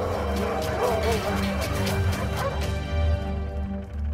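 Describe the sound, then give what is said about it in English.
Dogs that acted in director Cornel Mundruszko's film bark and yip in quick, overlapping, energetic bursts throughout, with a steady low rumble running underneath. “If you've seen the movie, it's really hard to imagine these sweet dogs playing tough.”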